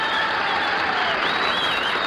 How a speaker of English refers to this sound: And I would like Milwaukee to make a large noise in favor of … and the concert in miniatures. Come on, start clapping.